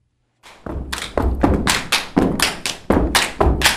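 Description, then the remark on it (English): Loud, rhythmic step dancing at a practice of A Step Above Perfection (ASAP), Florida Gulf Coast University's step team: heavy stomping feet thud in a steady beat, mixed with sharp hand claps, a tight percussive pattern of repeated hits. “Practice for a Step Above Perfection, or ASAP, is a feast for the ears as well as the eyes, as stomping feet, clapping hands, and spoken word punctuate swift movements.”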